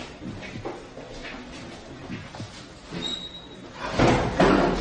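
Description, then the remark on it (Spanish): A door moves: faint knocks and a brief high squeak, then a loud, rough scraping thud near the end, like a door being pushed or slammed shut. “Nuevamente la puerta y he visto nuevamente ese flash que provenía de aquí justamente.”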